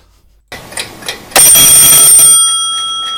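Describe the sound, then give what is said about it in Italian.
A few soft mechanical clicks, then an alarm clock bursts into a loud, continuous metallic ringing that holds steady and fades only slightly toward the end. No one speaks. “Sveglia Revolution! Come quella sveglia palestinese.”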